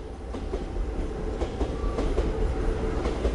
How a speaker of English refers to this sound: Every 2 minutes, a commuter train runs by the spot where the philosopher Socrates was indicted for corrupting Athenian youth.